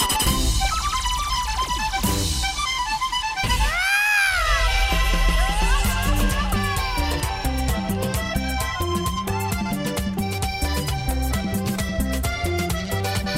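A single drawn-out cat meow rises and falls near the start, sounding over loud, busy music that plays throughout, with no talking.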